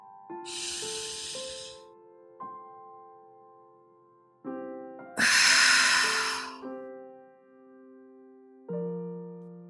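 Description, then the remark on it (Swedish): Two deep, airy breaths in a guided relaxation exercise, a long inhale through the nose and then a fuller exhale through the mouth a few seconds later, sound clear over soft, sustained musical tones that shift gently in the background. “Låt nu andetaget återgå till sin normala rytm.”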